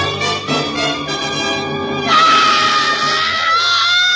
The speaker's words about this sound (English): And then she threw up her hands and shrieked.